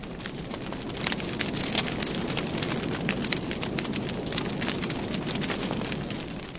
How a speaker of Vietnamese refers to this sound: Lẫn với tiếng mưa lộp độp như vậy, tiếng gió rào rào thì nàng vẫn nghe thấy cái tiếng chuông đồng hồ ở nhà trên rè rè điểm 10 tiếng.